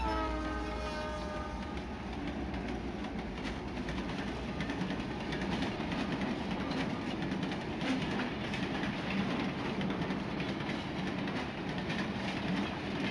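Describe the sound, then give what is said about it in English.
A train rolls steadily along its rails, a constant rumble and rattle filling the scene, with a fading horn-like tone in the first couple of seconds. No one speaks. “The train ride was pretty boring.”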